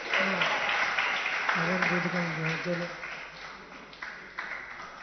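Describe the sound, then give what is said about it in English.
An audience applauds steadily, a dense crackle of many hands clapping at once, welcoming a guest speaker at a Hare Krishna (ISKCON) gathering, with a voice briefly sounding over it partway through before the clapping thins slightly toward the end. “Please welcome with a loud round of applause”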